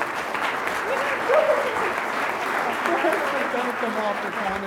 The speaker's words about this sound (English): Give another great round of applause for my cousin Caroline.